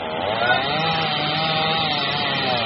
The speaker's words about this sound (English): a man up in a bucket cuts the bottom half loose with a chainsaw